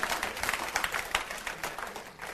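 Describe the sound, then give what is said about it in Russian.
An audience at a Protestant gathering applauds steadily, many hands clapping in a dense, continuous patter with small surges. “Аплодируй, Иисус живой.”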